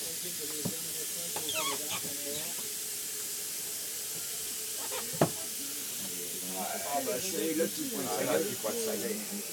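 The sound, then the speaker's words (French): A steady hiss of steam escaping a pressure cooker valve as its small cap is lifted runs throughout, with people talking over it and a brief sharp knock midway. “Non, il faut soulever le petit bouchon.”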